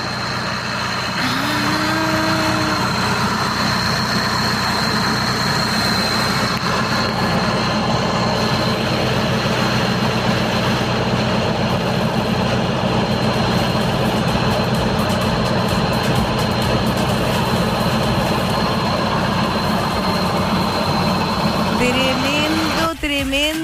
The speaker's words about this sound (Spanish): Ahí está el sonido del tractor. Mira, está con unos arrayanes ahí.